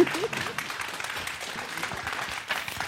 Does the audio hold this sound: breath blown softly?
no